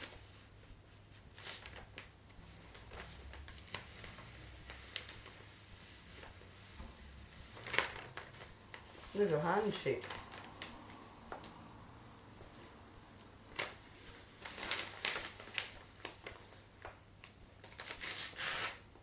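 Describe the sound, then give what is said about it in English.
Quiet, irregular taps and scratchy pokes of a pen punching holes in paper, scattered in short bursts with brief pauses, with a soft voice speaking briefly midway. “I'm just popping holes.”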